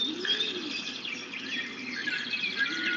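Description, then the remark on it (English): Continuous bird chirping fills the scene, many small tweets overlapping in a steady chorus, with a low cooing dove underneath and no voices. “And turn your attention to the awareness that is aware of the bird sound.”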